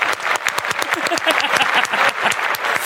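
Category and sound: sound effect, applause sound effect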